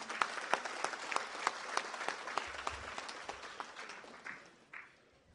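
Audience applause for the ejido commissioner (comisariado ejidal) of Miahuitlán: a steady patter of many hands clapping at a brisk, even rhythm, moderately loud, then thinning out and fading away over the last second or so.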